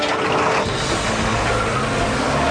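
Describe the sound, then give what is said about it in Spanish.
A jeep's engine roars with loud, rough mechanical rattling as it drives off fast from a bazaar, a steady, dense rumble that stays strong throughout, with no voices. “Joshua sube al jeep y se aleja apresuradamente del bazar.”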